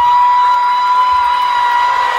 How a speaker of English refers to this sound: So they're like cheering.